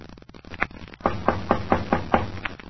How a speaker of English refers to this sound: I walked up the stairs and knocked on the front door, never expecting an answer.